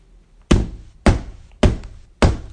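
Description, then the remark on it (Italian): Four firm knocks on a door, evenly spaced about half a second apart, each a solid thud with a short ring-out, and no voices. “Qualcuno ode il mio bussare?”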